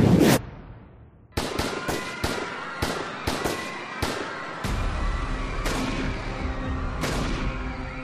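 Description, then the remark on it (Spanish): Gunshots fired from rooftops at student demonstrators during a massacre in Mexico ring out in a rapid, irregular volley of sharp cracks, a dozen or more, each trailing a ringing echo over a low rumble, with no voices. “Desde los tejados comenzaron los disparos.”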